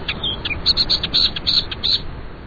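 A millerbird sings a quick run of bright, high chirps and short warbled notes, delivered in rapid bursts with brief pauses, fairly loud over a steady background hiss.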